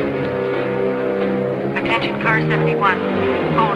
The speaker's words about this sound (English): Seeing the car disappear down the road, the man continues walking. Meanwhile, the police car passes under a dense web of power lines.